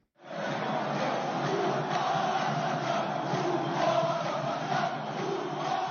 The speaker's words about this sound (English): Large crowds of protesters turned out in the capital, Algiers, Friday, despite word from the country's electoral commission that former Prime Minister Abdelmadjid Tebboune won a resounding victory in the presidential election.